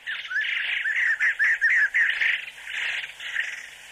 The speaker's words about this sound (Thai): เสียงนกชนิดหนึ่งร้องดังขึ้นจากพุ่มไม้หลังม้าหินอ่อนที่เรานั่ง